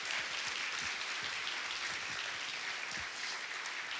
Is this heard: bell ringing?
no